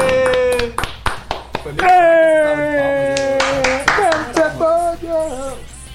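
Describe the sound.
Scattered hand claps, sharp and fairly loud, come in an uneven burst at the start and continue sporadically while a sustained, wavering voice cheers over them.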